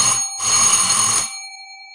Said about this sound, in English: Suddenly, there was a ring at the door.